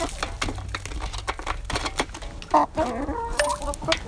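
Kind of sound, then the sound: bird, chickens clucking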